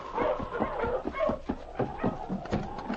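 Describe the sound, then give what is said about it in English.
A sled dog barks and whimpers in a rapid, uneven string of yelps and whines, fairly loud, with no one speaking. “I shot at the dog, but I missed.”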